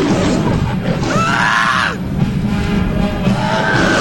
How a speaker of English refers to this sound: my wife there, was attacked by a lion?